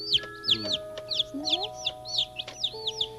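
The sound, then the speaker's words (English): Newborn chicks, born two days earlier, peep constantly, a steady stream of high, thin chirps overlapping one another, with no voices in between. “Someday they'll grow into be big hens and they'll be able to lay eggs.”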